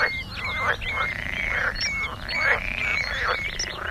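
A chorus of frogs croaking steadily, with overlapping nasal calls repeating in quick pulses over a constant low background hum, moderately loud.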